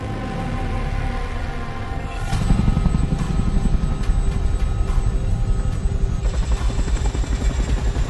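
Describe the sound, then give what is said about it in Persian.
A helicopter that is slowing down drones steadily with a dense, pulsing rotor chop and low engine rumble that thickens and grows louder partway through, then holds at a heavy, sustained level without any speech. “سرهنگ، سرعت هلیکوپتر داره کم میشه.”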